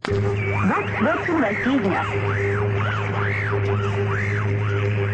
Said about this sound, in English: For one thing, we knew that the Voice of America was getting results. Knew it because of the expensive and elaborate measures the Russians took to jam those broadcasts, to ring down a curtain of static. Listen.